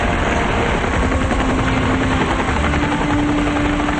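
Several helicopters carrying Rangers fly rapidly overhead. Their loud, continuous noise fills the air, with a dense rotor chop and engine roar over a steady whine. No one speaks.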